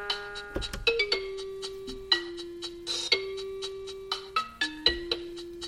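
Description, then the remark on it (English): A music box plays a slow, bluesy melody of bright, bell-like chimes over sustained ringing tones, each note struck clearly and left to fade, moderately loud with no voices. “Blues with bells.”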